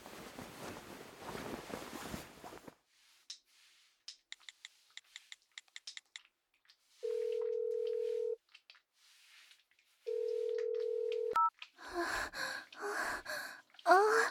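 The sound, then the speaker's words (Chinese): A series of quick keypad taps as a number is dialed to call an older sister, then two long, steady ringback tones separated by a pause, followed by a short click and heavy breathing. “我现在就打电话叫姐姐过来。”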